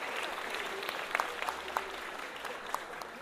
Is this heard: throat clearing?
no